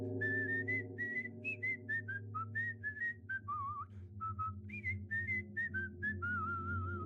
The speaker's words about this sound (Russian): Я стоял и слушал приближающийся свист.